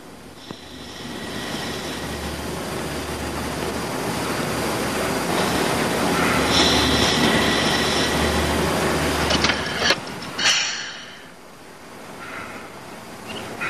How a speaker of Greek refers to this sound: Η Μέρη έγειρε στις πόρτες καθώς το τρένο έμπαινε στο σταθμό κροταλίζοντας και στριγκλίζοντας, έτοιμη να ορμήσει τη στιγμή που θα άνοιγαν.